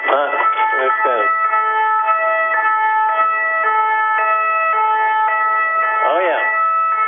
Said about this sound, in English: Hey, hold on. Is that a French police car? Let me hear that. Yeah, it sure is.